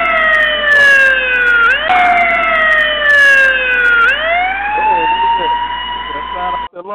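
A loud, continuous wailing siren alarm whose pitch glides slowly down, jumps back up, then rises again in long sweeps for about seven seconds before cutting off abruptly.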